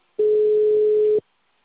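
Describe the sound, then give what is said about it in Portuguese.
A single steady telephone tone sounds for about one second at a constant mid pitch as the call is forwarded to voicemail, starting and stopping abruptly, with silence on either side and no voices. “Chamada encaminhada para a caixa postal.”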